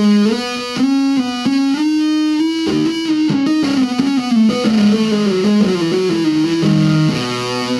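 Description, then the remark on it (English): A heavily fuzzed electric guitar, its fuzz crush control turned down to 12, plays a sustained melodic line hammered on without picking, its notes gliding and blooming with thick, buzzy harmonics and long sustain, loud and alone with no talking. “brings out the unique characteristic of this fuzz”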